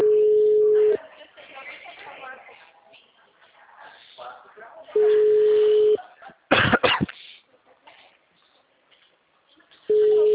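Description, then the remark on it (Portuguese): A short burst of harsh coughing breaks in midway, set between repeating phone busy-signal tones, with faint muffled talking in the background. “É que eu tô tossindo.”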